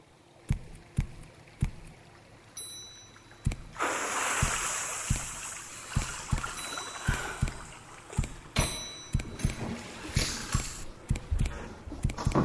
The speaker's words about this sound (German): Halte dich links. Achte auf das Geräusch des Wassers.